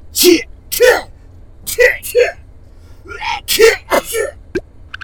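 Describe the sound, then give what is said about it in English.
A string of short, breathy, voiced bursts builds into sneezes, fairly loud, with quick gasping intakes in between, like someone working up to several sneezes in a row. “Ooh, I want one too. Help me sneeze!”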